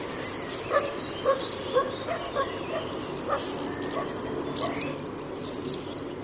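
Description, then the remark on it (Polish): Common swifts giving shrill, high-pitched screaming whistles, a near-continuous chorus of overlapping drawn-out calls, with a louder burst near the end and no voices. “Jest to przeraźliwy, wysoki świst.”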